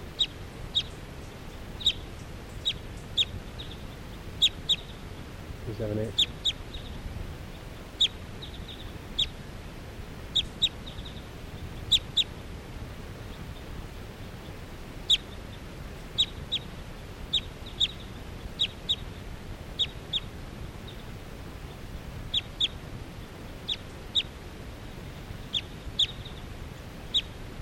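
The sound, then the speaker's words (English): A wild bird calls with short, sharp, high-pitched chips, repeated steadily at uneven intervals over a low rumbling background, with no one speaking. “That one wild bird that was just calling came back in.”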